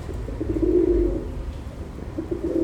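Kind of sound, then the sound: bird, pigeons cooing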